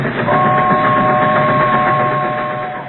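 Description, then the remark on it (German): A train rumbles past, a loud, steady roar with a sustained high whine running through it, fading slightly toward the end. “Hier muss gerade irgendwo ein Zug vorbeigefahren sein.”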